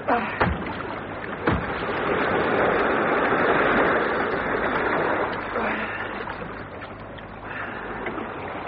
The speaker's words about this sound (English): They heard it! Those men are shining the torch out to sea. I can hear oars.